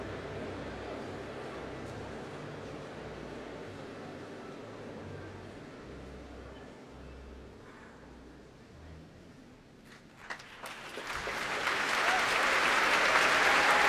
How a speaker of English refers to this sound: Applause, those roars of cheers greet the leader of the National Youth Orchestra in this second part of their poem,